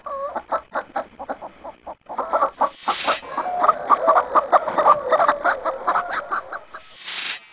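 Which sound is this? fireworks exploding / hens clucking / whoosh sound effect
hens clucking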